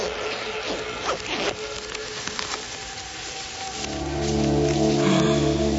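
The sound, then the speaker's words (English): Zippers on clothing are fastened in several quick, scratchy runs, followed by a steady low hum and faint rustling toward the end. “could you help me with these zippers, please?”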